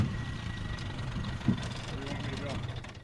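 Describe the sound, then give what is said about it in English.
The motor of an old beat-up fishing boat churns and labors in a steady low rumble as it bogs down in a muddy patch while crossing a lake at Depew, Illinois, left low by lack of rain and scorching heat, with a brief thud partway through. “The boat encounters a muddy patch, a sign that a lack of rain and scorching temperatures had deprived this lake of water.”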